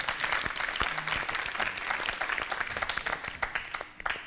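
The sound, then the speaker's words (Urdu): A crowd claps steadily and energetically to encourage Team B in a team competition, a dense wash of overlapping hand claps that stays loud throughout and eases off slightly toward the end. “ان کی بھی حوصلہ افزائی ہو جائے زوردار تالیوں کے ذریعے.”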